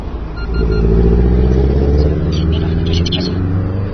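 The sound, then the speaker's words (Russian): Cars drive past on a street where pedestrians wait to cross, loud, their deep engine rumble swelling in and holding steady for a few seconds with a hint of tyre hiss and faint background voices. “Нет, я не рискую пока переходить. Машины проедут.”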